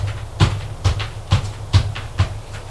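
footsteps

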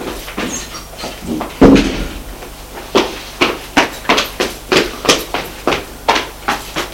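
apartment door closing

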